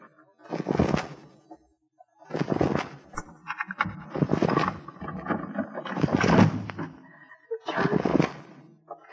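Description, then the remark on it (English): A door is forced in with a series of five heavy, crashing blows, spaced roughly two seconds apart, each one loud and booming with a rough, splintering edge. “Are you going to open the door or do I break it in?”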